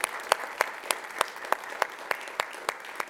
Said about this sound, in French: On peut applaudir quand même parce que là...